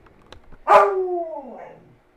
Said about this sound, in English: Okay, so Pia, the talking dog, is telling me something. I think she needs to go out.